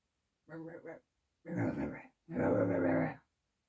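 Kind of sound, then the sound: animal, puppy growling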